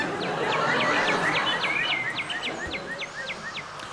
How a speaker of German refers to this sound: Oh, die Gänse sind auch da.